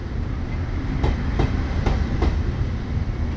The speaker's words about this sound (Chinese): 花莲乡亲期盼多年的倾斜式列车太鲁阁号，元月23号缓缓地驶进了花莲火车站的第三月台。